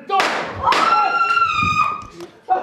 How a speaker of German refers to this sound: Ein Schuss, ein heilloses Durcheinander, ein Mord.